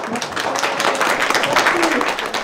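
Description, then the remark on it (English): Steady applause from a crowd at a public meeting voting on a protected bike lane along Central Park West, after the Department of Transportation representative unveils the plan. A dense patter of many hands clapping at once for a couple of seconds, with a few voices faintly mixed in underneath. “And I know that you heard applause in the room, but there were also plenty of people in the room who were not pleased to hear that.”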